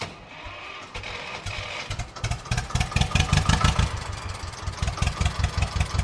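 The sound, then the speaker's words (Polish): An old, freshly overhauled tractor engine cranks and catches, then settles into a loud, steady low idle with a regular chugging pulse. No voices are present. “No i spróbujemy zaraz zobaczyć tego, czy zapali. Ten ma inny już dźwięk będzie miał.”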